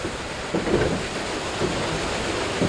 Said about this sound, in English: The sound of water rushing over huge wheels is what drove an operation known as the Saugus Iron Works. It started in 1646, the Saugus Iron Works.